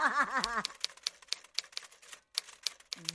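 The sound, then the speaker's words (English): Crisp typewriter keys clack in a quick, uneven run of a dozen or so strikes with a brief pause near the end. A short warbling vocal sound opens the run. “you can stop the typewriter thing now.”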